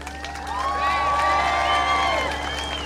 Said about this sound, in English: So let's give a cheer, a support to those people in Cairo who are besieging the Israeli embassy in Cairo.